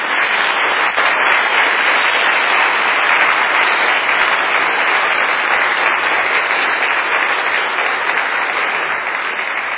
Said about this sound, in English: Okay, so ladies and gentlemen, if you would please offer a round of applause for our participants.